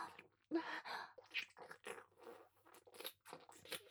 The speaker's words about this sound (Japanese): 全部すすってあげます。なんとはしたない音。 神に仕えるものが出していい音ではありません。ですが、すするの止められません。